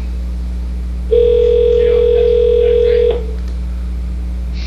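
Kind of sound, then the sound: signal or alarm, telephone ringing tone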